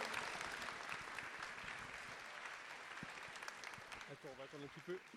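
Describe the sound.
An audience applauds an author for his work at the end of a book event, a dense, sustained wash of many hands clapping from a crowd; toward the end a man's voice starts speaking over the fading applause.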